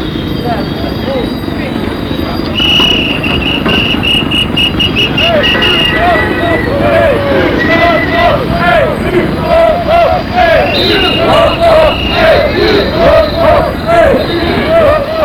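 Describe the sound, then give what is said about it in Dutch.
Recorded tape of a street demonstration at the border hospice: a dense crowd babble with shouting voices, whistles and chant-like cries rising and falling over steady loud background noise, with occasional knocking or hoof-like clatter. “Dit zijn geen live geluiden, dit zijn geluiden afkomstig van de demonstratie bij het grenshospitum.”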